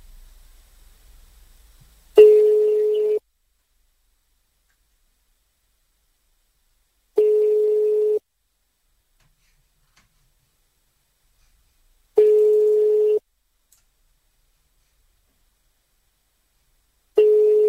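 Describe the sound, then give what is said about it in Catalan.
A telephone ringback tone over the line, dialled live as a surprise call on the Supermatí show of Ràdio Capital: four one-second steady beeps spaced about five seconds apart, each clear and fairly loud, with silence between and nobody picking up. “Marquem el telèfon. A veure si sona.”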